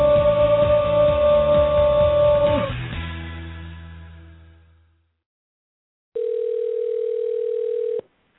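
A musical sting fades into silence, then a single steady telephone ringback tone sounds for about two seconds, a flat, fairly loud electronic buzz that cuts off abruptly.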